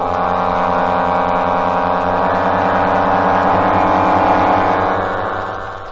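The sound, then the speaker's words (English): The four propeller engines of a giant bomber, heard in the distance, drone steadily and loudly at maximum speed as it climbs into the sky, a deep continuous roar with throbbing harmonics that swells slightly toward the end before easing off. No voices are heard. “The dull drone of four motors revolving at maximum speed as it wings into the sky. The plane soars on, its engines a thunderous roar.”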